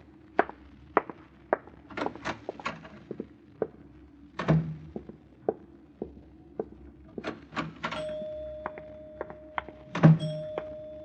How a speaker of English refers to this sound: I rang the elevator bell for us.